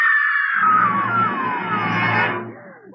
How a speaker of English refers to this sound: Did you hear that woman scream? Yes. It came from that parked car.